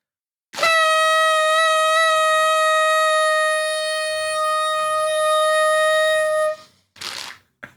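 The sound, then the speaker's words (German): A toy horn is blown in a contest over who can toot longer, blaring one long, steady, nasal tone for about six seconds, bright and buzzy with strong harmonics, then cutting off, followed by a brief rustling burst. “Dann entscheidet, wer länger tröten kann.”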